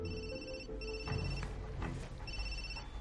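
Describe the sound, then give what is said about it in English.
A telephone rings in repeated electronic bursts with short gaps between them, clear, over a low background rumble; it is the phone call that Broyles receives. “Now, the phone call that Broyles gets is that the, I've already forgotten his name.”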